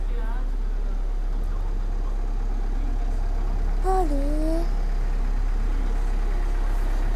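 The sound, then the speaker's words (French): A steady, loud low rumble of a passing car's engine fills the street scene throughout, with a brief rising tonal sound near the middle. “Ah, il y a encore une voiture. C'est pas vrai. Quelle circulation!”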